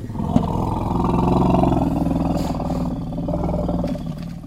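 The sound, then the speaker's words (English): A four-year-old elephant calf lets out a Baru rumble, a sustained, deep roaring rumble, loud, with a growling, lion-like quality that swells and holds steady for several seconds before easing slightly. The calf is complaining. “Let's listen to something called the Baru Rumble.”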